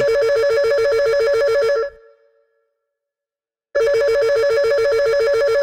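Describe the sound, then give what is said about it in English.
A loud electronic telephone ring trills steadily, stops for about two seconds of silence, then starts ringing again, clear with no voices. “Oh, looks like we have a call on our high school dream phone hotline.”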